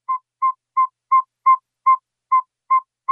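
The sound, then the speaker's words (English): A northern saw-whet owl calling at night in Homer in March, giving a steady series of about nine clear, high tooting whistles, evenly spaced at roughly two to three per second, loud with no other sounds. “The northern saw-whet owl.”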